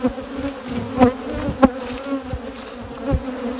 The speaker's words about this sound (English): So I'm pulling a couple of frames out of here. I brought these bees home. Oh, I gotta slam them. Just gotta get them out of here quick because the rain's coming.